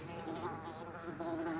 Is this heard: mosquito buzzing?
yes